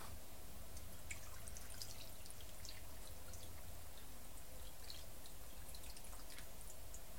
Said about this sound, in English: Okay, and I have some water in my kettle that I'm just gonna put in right now.